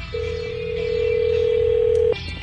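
A single steady telephone tone sounds for about two seconds, clear and fairly loud over a low background hum, then cuts off abruptly, as a phone call to a contest winner in Rancho Cucamonga is placed.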